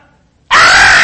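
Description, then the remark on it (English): After a brief quiet moment, a person abruptly lets out a loud, shrill, sustained scream, mimicking a terrified child crying out in fear. “It's the idea of screaming like little children in terror.”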